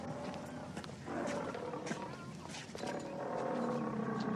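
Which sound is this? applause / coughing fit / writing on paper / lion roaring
lion roaring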